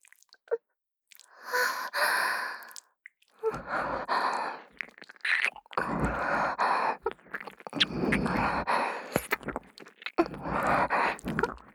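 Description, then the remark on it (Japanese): Wet licking and mouth sounds at the ear, coming in several long, breathy bursts with short pauses between, soft and intimate. No talking. “耳なめも。”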